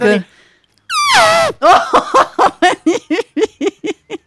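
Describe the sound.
A voice in a studio imitates an elephant trumpeting as a sound effect: a loud, high, wavering blare swooping downward, followed by a run of about ten rapid, rhythmic guttural bursts that trail off.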